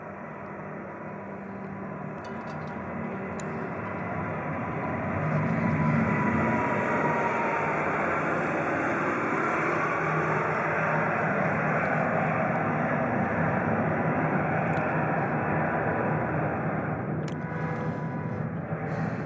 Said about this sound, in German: Und dann ist der Auftrieb, die Kraft des Auftriebes größer als die Schwerkraft. Und in dem Moment fängt das Flugzeug an zu fliegen.